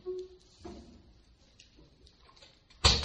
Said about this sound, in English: All right, let's get the door open and then everyone can try and listen again because everyone's attention is diverted to the door opening.